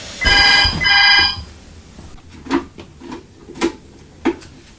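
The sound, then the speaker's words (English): A telephone rings in two loud, trilling bursts with a bright electronic tone, then stops; a few soft, scattered clicks and taps follow in the quiet. “That was a lady trying to sell Mummy some new doors and windows.”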